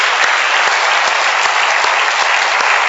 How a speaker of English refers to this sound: So let's give Jesus a good round of applause and thank him for being so good to us.